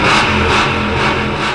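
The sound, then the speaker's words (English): A car engine revs loudly and steadily, a continuous throaty roar with a low rumbling drone that holds for a second or two, with no voices. “Your engine's ready. Yep. Revving up.”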